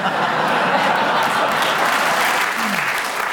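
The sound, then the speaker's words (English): The audience of the panel show Just a Minute bursts into sustained applause for a contestant's speech, a dense, steady wash of many hands clapping at even loudness throughout, with a faint hint of a voice near the end. “I'll give you a round of applause because we enjoyed what you said”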